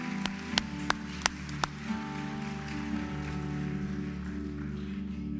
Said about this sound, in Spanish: También hay una pequeñita que se graduó también y es muy querida a nuestro corazón. Ahí está ella. Un aplauso para ella, una felicitación especial.